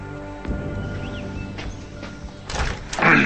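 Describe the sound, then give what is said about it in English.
A man in a hooded sweatshirt opens a house's front door from the foyer: a few sharp clicks and knocks from the latch and handle, then a louder rattling swing toward the end, with no voices. “Eli slowly walks past the foyer staircase in a hooded sweatshirt and opens the door.”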